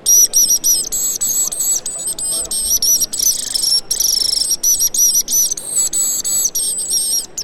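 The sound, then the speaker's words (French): Busy, high-pitched twittering chirps run almost without pause, a bright chattering of swallow calls in quick irregular bursts, steady in loudness throughout. “Alors d'abord, l'hirondelle.”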